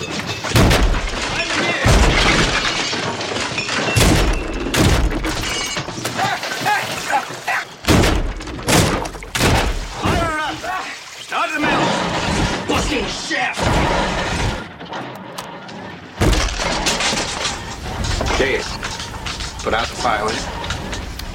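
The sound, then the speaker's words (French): Heavy, booming thuds of a shark ramming its snout into a boat hull to sink it strike again and again at irregular intervals, loud and jarring, cutting through a vocal trio singing together, with Roy Scheider as Brody and Richard Dreyfuss as Hooper. “Dans ce trio vocal interrompu par les coups de butoir, les coups de museau du requin dans la coque du bateau pour le faire couler, il y a Brody, donc Roy Scheider, et Hooper, Richard Dreyfuss, qu'on a déjà entendu dans l'extrait précédent”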